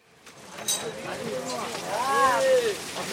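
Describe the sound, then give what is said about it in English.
Outdoor ambience at the Dikawitta Fishing Harbor just outside Colombo, Sri Lanka, with dozens of 45-foot fishing boats docked: a steady wash of background noise, indistinct voices, and a few rising and falling calls drifting across the open air. “I'm standing at the Dikawitta Fishing Harbor just outside of Colombo, and there are dozens of 45-foot fishing boats docked here.”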